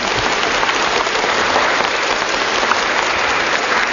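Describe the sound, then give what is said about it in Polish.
Steady, dense applause from a large crowd in a church during a prize contest between two teams, many hands clapping at once in a loud, unbroken patter with no voices heard above it. “Oczywiście, gdy jest to olimpiada, są dwie drużyny, to jest tak ciach, oklaski, cały kościół został urzędem.”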